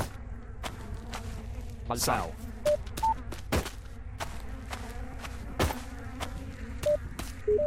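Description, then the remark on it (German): A steady, droning insect buzz hums throughout, with short sharp clicks and taps scattered over it and a brief spoken word near the start. “Das summt ja sympathisch hier.”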